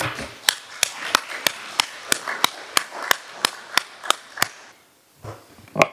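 Loud applause in a council chamber, clapping in a steady, sharp rhythm of about three beats a second over a softer wash of claps, then breaking off into quiet with faint sounds at the end.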